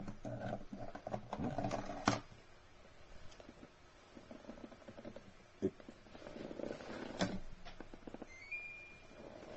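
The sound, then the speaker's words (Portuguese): An air conditioner is switched on and starts up, with a few sharp clicks, a short electronic beep near the end, and a steady low mechanical hum running underneath. “Deixa eu ligar aqui o ar-condicionado, porque está muito calor.”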